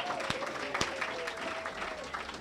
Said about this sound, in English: That was incredible. One more round of applause for